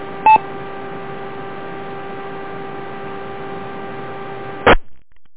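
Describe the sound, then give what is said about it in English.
A steady electronic tone with a faint hiss runs for several seconds, bracketed by a short beep at the start and a brief burst of tones at the end: the identification signal of the Rochester radio repeater. “Okay, well, the Rochester repeater ID, so if anybody came in and I did miss them, so I'll make one more try here.”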